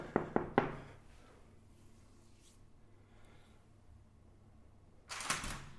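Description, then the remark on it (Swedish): Three quick, sharp knocks on the door of a home, made to see whether a woman is in, followed by a quiet pause with faint background noise, then a brief rattling clatter near the end. “Nu ska vi knacka på och se om hon är hemma här.”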